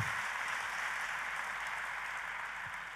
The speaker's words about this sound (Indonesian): Boleh sekali lagi tepuk tanganmu yang paling meriah, saudaraku.